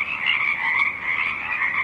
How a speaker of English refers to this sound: The song of the Pacific chorus frogs rises and falls above a stiff breeze.